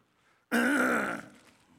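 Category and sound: human body sound, throat clearing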